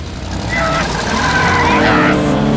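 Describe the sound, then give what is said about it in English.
A car engine revs hard and loud as the vehicle speeds off, its pitch climbing steadily with a whining, squealing edge over a rumbling roar for a couple of seconds. “I'm never seeing that car again.”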